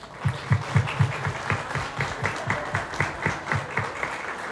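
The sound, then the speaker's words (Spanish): An audience applauds steadily, the clapping falling into a regular, rhythmic beat that keeps a fairly even loudness for several seconds, with no one speaking over it. “Entonces, antes de seguir, quisiera por favor, de parte de todos y todas, un aplauso.”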